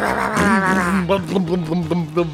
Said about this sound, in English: I hear those bikes riding in. That must be my co-host coming onto the show. Motorcycle's got more power, baby.